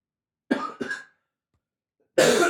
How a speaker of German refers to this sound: Also ich werde bei meiner Spur einfach sehr viel Husten rausschneiden und hoffe, dass es dann irgendwie nachher sich anhören lässt.